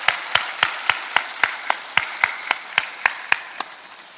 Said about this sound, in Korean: 자, 손을 조금 높게 들어주시겠습니까? 큰 박수로 격려해 주시면 감사하겠습니다.